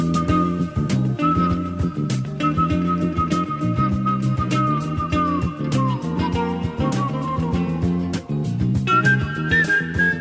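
A sustained whistled melody from the soundtrack of the Dutch film Turkish Delight glides and holds long notes over a full instrumental backing with steady percussion and bass, playing continuously and prominently without any talking.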